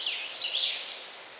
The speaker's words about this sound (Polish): Właśnie słychać zięby. Dziennie zięba może zaśpiewać takich swoich zwrotek 3000 nawet, tylu się doliczono. Pieśń ta brzmi lekko i radośnie